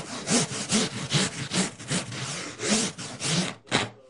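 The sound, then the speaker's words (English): A surfboard being shaped by hand at Channel Island Surfboards in Santa Barbara: steady back-and-forth rasping strokes, about ten in quick rhythm, loud and gritty, with no voices, ending in a brief pause and a final scrape. “in Santa Barbara at Channel Island Surfboards, and I'm about ready to shape a board.”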